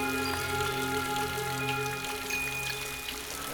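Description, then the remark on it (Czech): Steady rain patters continuously in a forest, with scattered drops and a soft wash of water; sustained ringing metallic tones from an old wind chime made of metal pieces, fixed on a tree branch, hang over it throughout. No one speaks. “Dokonce ani nic neslyší. Pouze déšť a starou zvonkohru z kovových dílků.”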